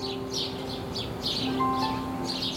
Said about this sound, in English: Migrating birds travel north, and the morning crackles with their songs.